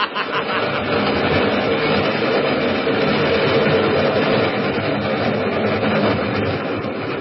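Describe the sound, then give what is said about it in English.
The 410 train rumbles past as it passes through, its heavy, steady roar of wheels and engine filling the whole stretch at constant loudness, with a faint rhythmic clatter underneath. “Yes, I was waiting for the 410 train to pass through. Here she comes.”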